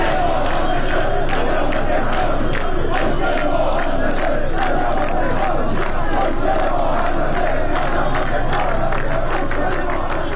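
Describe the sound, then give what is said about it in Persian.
A large crowd of firefighters chants loudly in unison at a protest rally in front of the municipality building in Tehran, on the anniversary of the Plasco building fire, demanding attention to their wages and livelihoods; voices rise together in rhythmic shouted bursts, with dense, steady crowd noise throughout and no single voice standing out. “همزمان با سالگرد آتش سوزی ساختمان پلاسکو در تهران، آتش نشانان پایتخت در مقابل ساختمان شهرداری تجمع کردند. معترضان خواستار رسیدگی به وضعیت حقوق و معیشت خود هستند”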